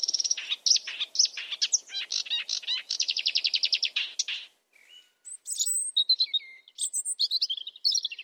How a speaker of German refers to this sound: Nachts ein Sumpfrohrsänger ist auch sehr schön.